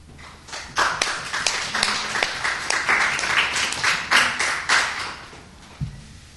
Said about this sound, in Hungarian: aki most feltehetően meghajol, és némi funcogás, valamint erős taps, bravo! Felkiáltások kíséretében valószínűleg elhagyja a színpadot.